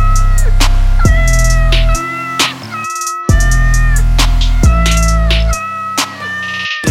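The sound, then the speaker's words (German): Loud, repeated cat meows arranged rhythmically over a thumping bass beat, with sharp percussive hits between them and no talking. “Ich könnte hier Katzenklänge spielen und sicher wär der Sieg”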